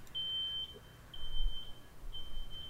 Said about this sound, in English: Not my house. No, that's... My neighbor has a truck outside that they keep backing up. That beeps.